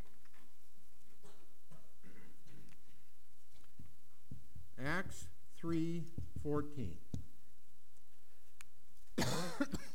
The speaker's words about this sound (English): Boy, you got me coughing too now. I thought we were done with all this stuff.